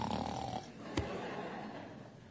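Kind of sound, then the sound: vocal imitation, imitated snoring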